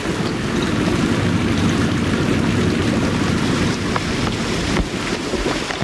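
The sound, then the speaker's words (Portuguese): A steady, dense hiss of water spraying from an irrigation system over a 17-hectare cornfield in São Sebastião, Distrito Federal, Brazil, during the dry season in the Cerrado, continuous for several seconds with a faint rumble underneath and no voices. “Água, muita água.”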